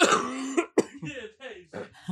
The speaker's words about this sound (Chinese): 就像那个 shock 哦，我现在咳嗽还是会有痰的那个声音。